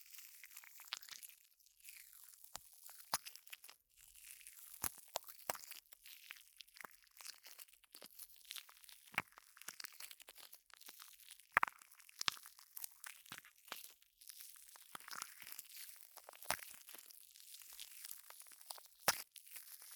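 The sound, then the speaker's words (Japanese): A steady fizzing with a constant bright hiss, peppered by many tiny crackling pops at irregular intervals like bubbles bursting. It gradually changes and grows stronger. No voices. “最初は普通のジェルみたいな音なんですが、だんだんシュワシュワしてくるんです。シュワリーンな感じの音しません？”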